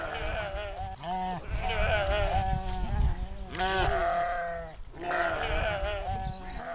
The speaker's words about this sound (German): Ja, ich hab's doch gehört, es war ein Schaf. Na, dann lass uns mal nachschauen. Guck mal, da ist ja auch eine ganze Herde. Es sind ja ganz schön viele Schafe.